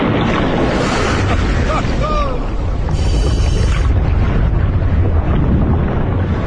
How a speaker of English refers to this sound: It's an unstoppable force hitting an immovable object. I'm keenly aware that these are very small waves. Believe me, in a big storm, to be here would be suicide.